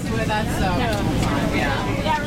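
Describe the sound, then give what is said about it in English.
The twin diesel engines with jet propulsion of a 55-foot fireboat on its first official voyage drone steadily and loudly, a constant churning rumble with a rushing jet-like hiss over it and indistinct voices murmuring underneath. “It's powered by twin diesel engines with jet propulsion, offering a more rapid response to fires, medical incidents, rescues, and hazardous material situations.”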